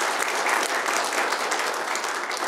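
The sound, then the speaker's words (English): An audience claps steadily, offering applause to a gracious God and for their generous response, a dense wash of many hands applauding at an even, sustained volume with no voices standing out. “In fact, this would be a good time for you to offer applause to a gracious God and for your generous response.”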